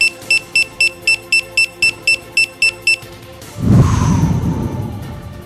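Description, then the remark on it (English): A bomb timer on a device being disarmed beeps rapidly and evenly, about a dozen sharp electronic tones over three seconds, then falls silent before a loud, low rumbling whoosh swells up and fades. “Well, note the lack of beeps. I think the bomb's defused.”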